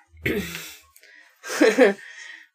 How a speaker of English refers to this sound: Kitty and my husband are fighting all day. It's actually kind of cute, but...